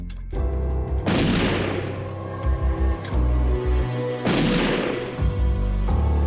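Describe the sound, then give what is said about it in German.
Two loud gunshots ring out at night about three seconds apart, each a sharp boom trailing off in a long echoing decay over a low, steady rumble. “In der Nacht hört Jürgen Mertens 2 Schüsse.”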